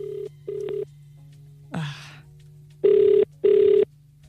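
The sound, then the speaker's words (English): Telephone ringback tone on an outgoing call to a competition winner: two pairs of short buzzing double rings, separated by a brief rustling noise, over a steady low hum, with no one talking. “So you have to make sure, you have to absolutely make sure that you pick up your phone.”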